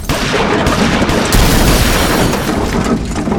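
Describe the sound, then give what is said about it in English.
Loud shots from an oversized handgun boom out in a rapid, chaotic volley, heavy low-end blasts blurring into a dense roar for several seconds with no voices over them. “But Topper shots... from his ridiculously oversized handgun went high, went wide, went south, went through an innocent bystander's leg across the street.”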